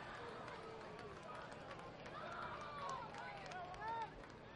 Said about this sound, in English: Crowd liked how that sounded. Looks good off Burns' bat. Just didn't get all of it.